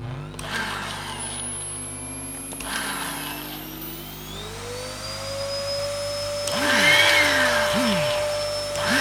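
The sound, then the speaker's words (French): An old Tokiwa 1600-watt electronic vacuum cleaner at the end of its life runs steadily, its motor whine climbing in pitch as it spins up, with a loud rough roar and occasional warbling, strained surges near the end. “aspirateur en fin de vie, Tokiwa 1600 watts électronique.”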